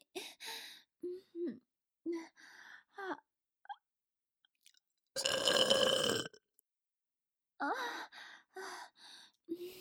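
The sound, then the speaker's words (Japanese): One long, loud, rumbling burp lands mid-clip, prominent, framed by short breathy vocal sounds and sighs before and after. “ねえ、以前のあなたのおしっこゲップと比べていかが？どちらが臭いか教えてくださいな。”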